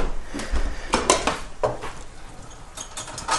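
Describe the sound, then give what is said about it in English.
A metal knife clinks and rattles against dishes as it is put into a dishwasher, with several sharp, bright clatters spread over a few seconds and a soft scrape between them. “Knife in the dishwasher.”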